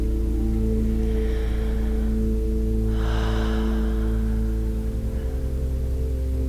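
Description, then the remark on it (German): Deep breathing: a soft, drawn-out inhale followed by a fuller, louder exhale over a steady, low humming drone, with no talking. “Und wir atmen dazu.”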